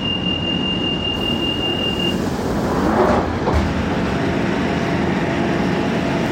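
Steady, loud rumble from inside a moving London Underground train, with a thin high whine early on and a brief metallic swell of wheel noise midway; no one speaks.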